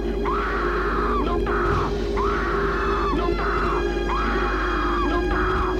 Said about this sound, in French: Elle ne veut pas tomber. Elle essaye de remonter. Mais ce vent la pousse, la fait descendre, la pousse vers le sol. Elle crie, elle hurle.